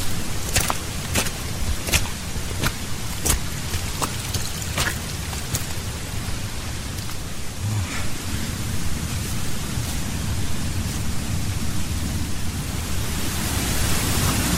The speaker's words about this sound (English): And there's water running on the path. We're basically wading through, almost through a little stream here.